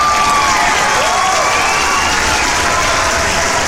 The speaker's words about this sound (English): Wow, oh my gosh, thanks for all the applause.